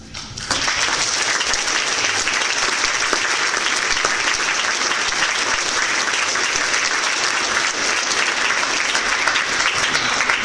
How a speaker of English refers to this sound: All right. Thanks for coming. Let's give these guys one more round of applause.